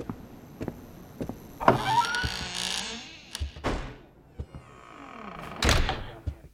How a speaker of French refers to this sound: Avançons. La porte s'ouvre sur un couloir.